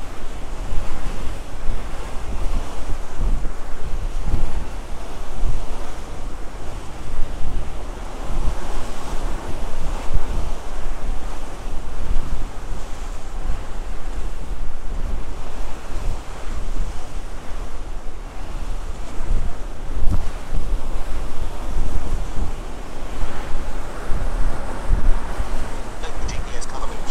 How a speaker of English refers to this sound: So hopefully it's blocking the wind, and I have windsocks on the mics, but the wind is just part of being on the boat. And when you're moving, no matter where you are outside on any of the decks, the wind is always there.